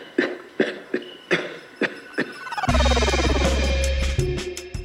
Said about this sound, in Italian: Ecco, questo che tossisce è il paziente che ha, percepito che c'è qualcosa, insomma, che non va.